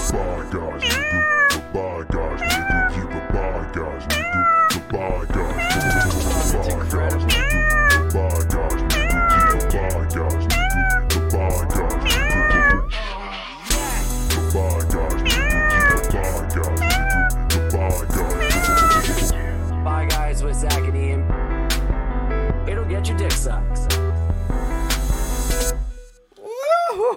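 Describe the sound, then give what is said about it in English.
A cat meows over and over in quick, rising-and-falling cries, some stretching into drawn-out yowls, layered over a steady rhythmic musical backing that runs almost the whole time before cutting out. “We just had a cat emergency, but it ended up being feline.”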